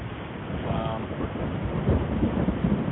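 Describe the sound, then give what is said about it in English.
A steady wash of heavy rain with low thunder rumbling underneath during a storm in the Tampa Bay area of Florida, the storm noise filling the whole stretch and swelling slightly near the end, with a brief murmur of voice early on. “So, get your waders on, because it's been raining quite a bit here lately in Florida.”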